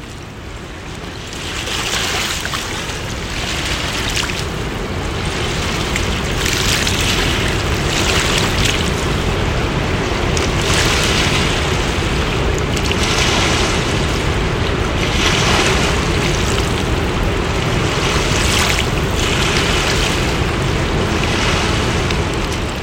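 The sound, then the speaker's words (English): Steady rushing river water heard from a bench area along a boardwalk past a footbridge, with wind buffeting the microphone, rising in repeated surges, while a low rumble of passing boats runs underneath; no one speaks. “And it's an area where we can take in some of the sounds and the sights of the river.”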